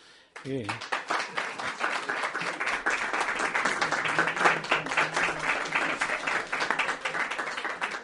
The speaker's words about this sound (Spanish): cada vez que ven que hay un aplauso... Cada vez que oyen aplausos es para ella.